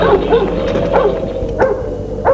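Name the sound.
dog barking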